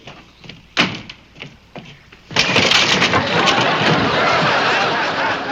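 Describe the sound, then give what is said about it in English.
A few sharp wooden knocks and creaks, then wooden steps suddenly collapse with a loud crash that becomes a sustained clattering rumble of falling timber lasting several seconds. “These steps have collapsed.”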